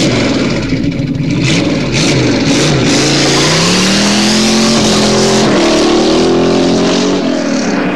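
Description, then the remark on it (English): A car engine revs loudly, its pitch climbing and falling through several gear changes as the vehicle drives past, with a steady roar throughout and no voices; a famous-car driving sound effect from the 20th Century Fox Sound Effects Library. “There's even a complete CD dedicated to the driving sounds of many famous cars, including the original Batmobile, complete with classic chase scenes.”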